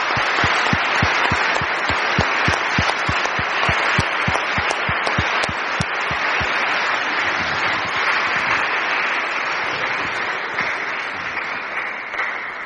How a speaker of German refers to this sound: Ich glaube, das Team hat nochmal einen dicken Beifall von Ihnen verdient.